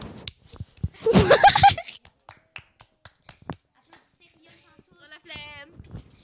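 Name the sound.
audience applause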